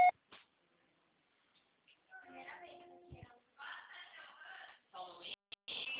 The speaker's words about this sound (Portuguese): Sua chamada está sendo encaminhada para a caixa postal e estará sujeita à cobrança após o sinal.